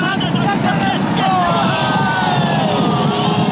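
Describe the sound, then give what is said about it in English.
A large racetrack crowd yells and cheers at the racing horses, a dense, continuous roar of many voices shouting over one another, loud and sustained throughout. “you can be sure that lots of people are going to be shouting at horses.”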